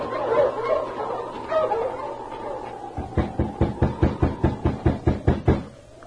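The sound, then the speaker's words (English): A sled dog team, halted by its driver in the early morning at an isolated spot surrounded by birch trees, barks in a rapid, steady burst of about a dozen sharp barks, after a few seconds of softer whining and restless noise. “A week passed, and then, in the early morning, at an isolated spot surrounded by birch trees, a driver halted his team of dogs.”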